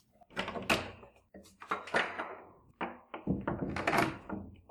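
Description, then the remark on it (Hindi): The door of a home being opened on arrival: a quick series of knocking clunks and rattles, like a latch and handle being worked, then a final thump as it swings open. No one speaks. “जल्दी दरवाजा खोल, मुझे जोरों की प्यास लगी हुई है। हाँ हाँ खोलती हूँ।”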